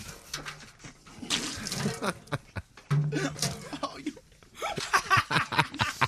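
Someone sputters and spits out a mouthful of water, with a few wet coughs, throat clearing and stifled laughter in short bursts.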